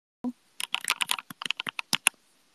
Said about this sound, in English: Honestly, I don't even know if the mic will pick it up, but I can try. It's just the regular iPhone mic, so. Let me try to type as loud as possible or keep the earphone as close to the keyboard as possible.